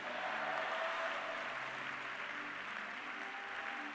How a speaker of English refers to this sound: If you believe it, clap your hands and say yes.